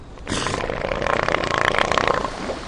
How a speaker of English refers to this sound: He worked on research boats like this one, but his favorite places were the deserted beaches of the Valdez Peninsula, the domain of the giant elephant seal.